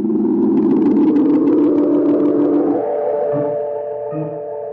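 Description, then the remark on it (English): A hired car carrying Sir Percival and his man Knobs drives off: a loud, steady mid-pitched engine rumble holds for a few seconds, then shifts in pitch and gradually tapers off. No one speaks. “And in the car, Sir Percival says to Knobs, Well, head for a safe place to stash the loot, Knobs.”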